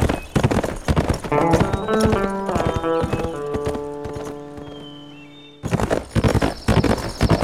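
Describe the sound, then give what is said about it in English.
The hooves of a horse ridden off by Sam Two Wolves clip-clop in a quick, steady rhythm, with sustained tonal sounds layered over them. The hoofbeats soften midway, then return loud and brisk at the end. “As he rode off, Sam Two Wolves was thinking some flat-out awful things about Matt Bodine.”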